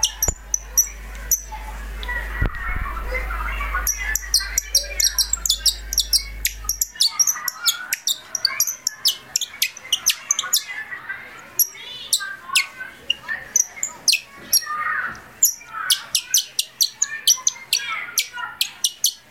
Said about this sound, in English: My bird is called the nightingale, and its Latin name is Lucinia megahintrus, and it sings like this.